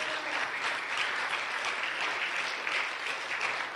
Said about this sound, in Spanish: Gracias, hermano pastor. Dele un aplauso a Dios, que Él se lo merece.